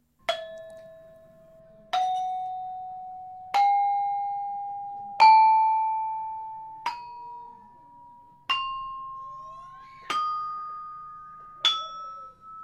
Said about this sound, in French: Vérification d'un accord d'une batterie heptatonique d'un gong à bulbe dans un orchestre de Bali.